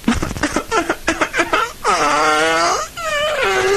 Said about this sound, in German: Also ich kann zum Beispiel, wenn ich will, lachen oder wenn ich will weinen, je nachdem. Ja, bitte weinen Sie einmal.